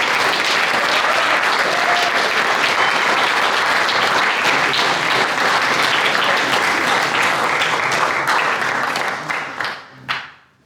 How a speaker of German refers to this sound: Ich finde, ihr habt nochmal einen richtig kräftigen Applaus verdient für das, was ihr euch hier nochmal gezeigt habt und das Projekt letztes Jahr gemacht habt.